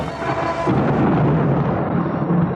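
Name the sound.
thunder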